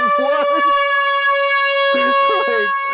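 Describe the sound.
A loud air horn blares in one long, unbroken blast for the whole clip, while voices talk over it briefly at the start and again near the end.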